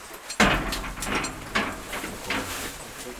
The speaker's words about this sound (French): La porte se referme et le royaume minéral souterrain vous accueille.